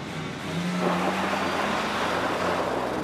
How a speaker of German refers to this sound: Das ist einer, der den Motor schon mal aufheulen lässt auf den immerhin 1000 Metern von seinem Trachtengeschäft bis zu seiner Lederhosenfabrik. Da kriegt man schon weiche Knie.